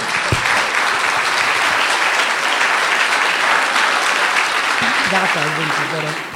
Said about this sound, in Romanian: Și aplaudați-o dacă se poate.